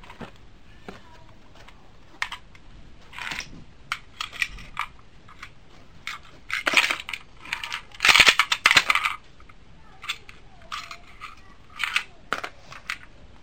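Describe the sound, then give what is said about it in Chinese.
Coins clink and jingle as they are handled, a series of bright metallic taps and rattles that cluster into a louder, busier burst midway before thinning out again. No one speaks. “你有拢着钱摕出来无？”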